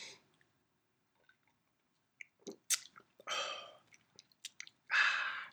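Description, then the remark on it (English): Someone takes a quiet sip of Roe & Co. whiskey, neat, from a glass: a brief slurp, a swallow and wet lip smacks, then a breathy exhale after a short pause. “I'm going to take a sip right now. Let me pause for a little Roe & Co. sip.”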